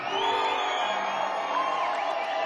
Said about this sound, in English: And how about a round of applause for the National Theater?